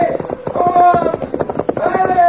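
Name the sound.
horses approaching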